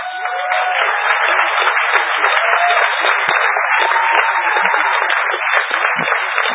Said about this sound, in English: For those of you who don't know why they're applauding, I'm the guy with my own area code.